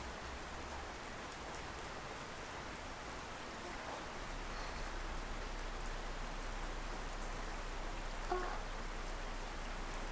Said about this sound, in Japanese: 天気雨だからすぐ止むと思いますけど。ほら、弱くなってきた。